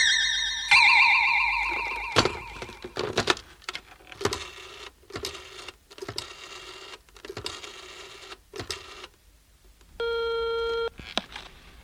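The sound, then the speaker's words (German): A sparkling, warbling magic effect with crackling bursts and swooshes plays first, followed near the end by one steady, electronic telephone ring. No one speaks. “Ene, mene, Mohn, hier steht das Telefon. Hex, hex!”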